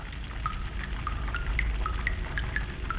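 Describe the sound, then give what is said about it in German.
Distillate drips steadily from a still condenser in a distillery, a quick irregular patter of small drops over a low rumbling, bubbling background with no voices. Steam passes through four stainless steel tubes surrounded by cold water and condenses into liquid. “Es brodelt, gurgelt und tröpfelt in der Brennerei.”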